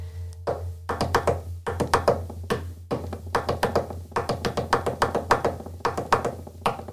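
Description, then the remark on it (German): Fingers tap out the Bolero rhythm on a hard surface, fairly loud, in quick repeating clusters of sharp knocks over a steady low hum, with no voices. “Wir mussten den Dings, wie heißt denn, den Bolero, glaube ich, klopfen.”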